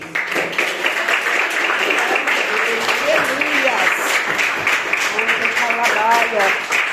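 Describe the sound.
A church audience breaks into loud, sustained applause to glorify the Lord, dense clapping for several seconds while voices call out and murmur underneath.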